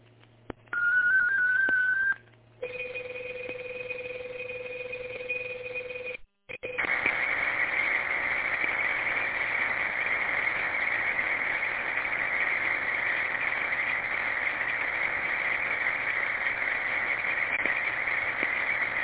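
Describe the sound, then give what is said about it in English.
A short 26-second digital radio traffic message sent by station KGTC: a brief high tone, then a pair of steady held tones, then a long, dense, hissy warble of data that stays loud and even to the end. No voices. “All right, I do have a very short digital traffic. This one is 26 seconds.”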